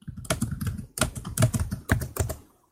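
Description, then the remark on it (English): Clear computer keyboard typing in quick bursts of keystrokes with brief pauses between clusters, heard alone without any talking. “I'll show you the shorthand because our keyboards don't have all these letters on it.”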